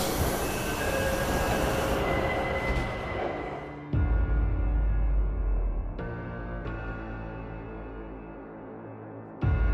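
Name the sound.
metro train running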